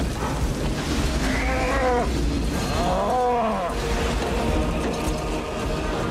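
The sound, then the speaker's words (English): A cow moos twice in quick succession, drawn-out harmonic calls rising and falling over a steady rumbling background noise, clear. “Cow. I gotta go,”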